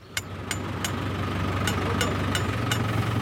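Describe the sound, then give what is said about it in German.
A tractor engine idles steadily with a deep, continuous rumble while a water canister is fastened to the tractor, sharp clicks or light metallic knocks sounding every fraction of a second. No one speaks. “befestigen einen Wasserkanister an einem Trecker.”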